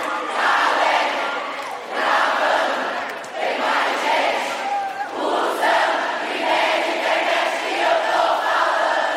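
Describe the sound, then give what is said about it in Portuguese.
A large crowd sings and shouts together loudly and continuously, voices massed in a sustained roar with rising and falling surges, like an audience chanting along at a live show. “Todo mundo! Se o Wi-Fi! E nem é de internet que eu tô falando. Mais forte, mais forte, bora, mano!”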